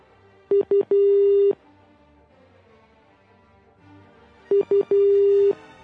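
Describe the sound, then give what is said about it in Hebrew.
Two bursts of an outgoing phone ring tone from a call to Oren, each with two short beeps and then a longer steady tone, repeating after a pause with no answer. No one speaks. “לא עונה אורן. יש לי הרגשה שהוא נוסע להתקשר אלינו, לכן לא.”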